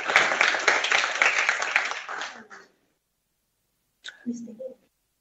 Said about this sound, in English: Let's give him another round of applause.